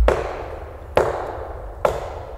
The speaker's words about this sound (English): McCall shot his gun at a nearby tree as a warning.